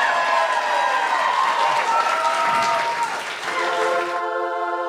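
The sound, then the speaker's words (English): An audience gives a steady, dense round of applause with crowd noise, over a tonal musical backdrop. The clapping cuts off near the end, leaving a sustained harmonic tone. “First of all, round of applause.”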